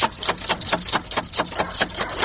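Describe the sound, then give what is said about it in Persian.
A rapid series of about ten sharp knocks on a door in the middle of the night, evenly spaced and fairly loud, rapping on without pause and with no voices. “ده این نصف شب در روزه را کی میزنه؟”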